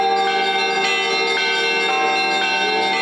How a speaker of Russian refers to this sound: По случаю престольного праздника божественная литургия завершилась крестным ходом вокруг храма под колокольный звон.